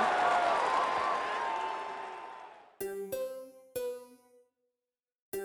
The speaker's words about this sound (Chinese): 故事开门，请掌声鼓励鼓励鼓励鼓励。